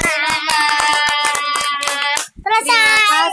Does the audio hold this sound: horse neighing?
no